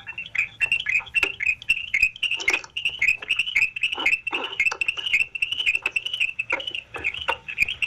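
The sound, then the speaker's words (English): A chipmunk chirps over and over in a rapid, steady series of sharp, high chips, clear, with a few louder clicks mixed in and no one talking. “I do hear a chipmunk chirping.”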